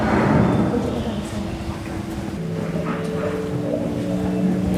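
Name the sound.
submarine diving underwater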